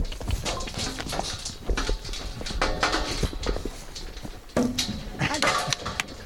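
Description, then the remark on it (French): Cattle hooves clatter and thump on a hollow trailer ramp, a busy, irregular scramble of heavy steps and knocks, with people's voices mixed in underneath, as cows are pushed up into the trailer one after another. “Ah bah ça y est, il y en a un qui est monté. Allez, on va pousser les autres.”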